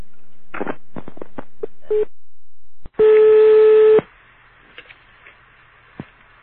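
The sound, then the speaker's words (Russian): Telephone dialing tones: a quick run of short beeps and clicks, then a single loud, steady tone holding for about a second before fading into a quiet line with faint ticks. “Вот позвони туда, по этим телефонам.”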